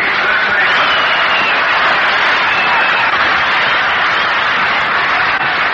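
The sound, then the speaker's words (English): A baseball stadium crowd applauds as Bob Elliott of the Boston Braves comes to the plate in the last half of the second inning, a steady, dense wash of clapping and cheering at a fairly loud, even level throughout, with no distinct voices standing out. “That round of applause greets the appearance at the plate for the Boston Braves in the last half of the second inning, Bob Elliott.”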